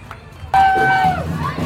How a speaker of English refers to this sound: There is everyone's cheering. There is every aspect of the rainbow flag here to celebrate on the island.